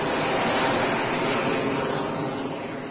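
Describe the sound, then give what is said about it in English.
A Tomahawk missile launching toward Libya from the warship USS Barry in the Mediterranean Sea: a loud, continuous rushing roar of rocket thrust that holds steady and slowly fades slightly, with no voices. “That Tomahawk missile was launched toward Libya from the USS Barry in the Mediterranean Sea.”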